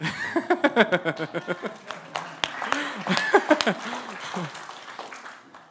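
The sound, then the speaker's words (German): Scattered, brief clapping from a small audience welcoming an invited pastry chef, mixed with voices and bursts of laughter. The claps come in sparse, uneven bursts rather than a sustained ovation. “Ein Applaus für unseren Bäckerkonditor.”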